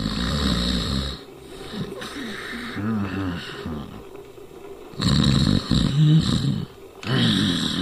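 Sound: man snoring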